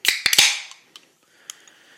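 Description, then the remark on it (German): Two sharp metallic taps on a can of blueberry-coconut drink, then the crack of the can tab popping open, followed by a bright fizzing hiss that fades out, with a couple of faint clicks afterward. “Ich mache es aber trotzdem, weil es ist ja, as is tradition, eine Dose zu öffnen. Deswegen fangen wir damit jetzt mal an.”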